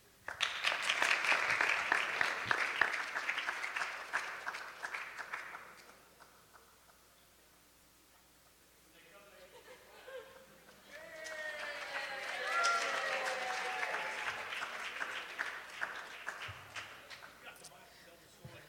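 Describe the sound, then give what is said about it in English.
An audience claps loudly for about five seconds, the sound fades to a lull, then a second round of clapping swells back up with scattered voices mixed in. “If y'all clap, maybe they'll come.”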